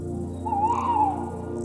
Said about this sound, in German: Irgendwo ruft eine Eule in die Dunkelheit hinein.